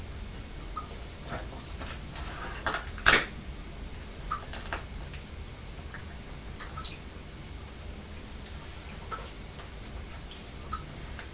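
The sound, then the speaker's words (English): A dripping tap: small, sharp plinks fall at uneven intervals, one slightly louder drop standing out, over a faint steady background hiss. “Can you hear the tap dripping”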